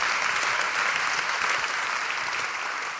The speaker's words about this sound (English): Shall we give a round of applause for our panel?